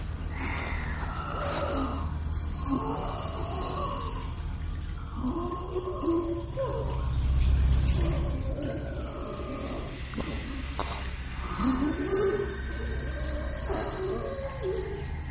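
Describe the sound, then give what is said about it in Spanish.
Heavy, labored breathing from a large beast, with deep groaning inhales and exhales repeating every couple of seconds, steady over a constant background hiss. “Podía escuchar la trabajosa respiración del animal.”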